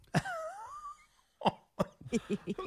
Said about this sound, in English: I'm sorry. When I laugh, I cough.